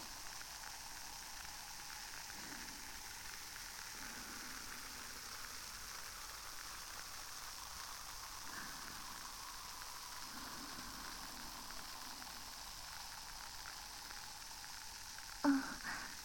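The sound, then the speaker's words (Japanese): Dense, steady crackling and fizzing of popping foam bubbles right at the ear, a soft continuous sizzle with tiny pops throughout and one brief louder thump near the end, no talking. “このパチパチって鳴る快感どうですか？耳の中でパチパチって鳴るんで、音が反響しているこの感覚、たまりませんよね。”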